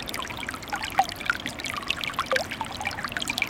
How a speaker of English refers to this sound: Along the way, we pass a trickle of that telltale orange-colored residue from acid mine drainage.